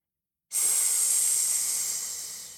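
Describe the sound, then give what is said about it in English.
A sudden, loud, steady hiss bursts in after a moment of silence and holds for about two seconds, fading slightly toward the end. No voices are heard. “With a hiss and a splash and a gurgle, she vanished beneath the waves and was never seen again.”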